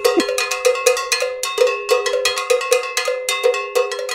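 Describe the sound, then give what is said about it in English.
A cowbell clanks in a quick, steady rhythm, each bright metallic strike ringing with a sustained harmonic tone before the next hit. No voices are present. “The cowbell's a fun thing to talk about.”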